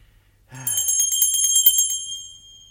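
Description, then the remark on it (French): A small hand bell rings rapidly and brightly for about two seconds, its clear metallic tone jangling before trailing off into a fading shimmer. “Bah, ils n'entendent point et ma sonnette ne fait pas assez de bruit.”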